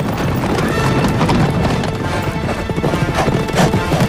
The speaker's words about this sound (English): Now, with the mountain chain behind them, the horses cross the parched valley floor, leaving deep hoof prints in their wake.